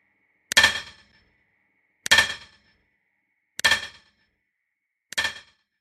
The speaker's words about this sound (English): They say if you go to that old Big Bend tunnel today and you listen real close, you can still hear the echoes of John Henry's great pounding hammer, fighting day in and day out against the cold stone heart of the mountain.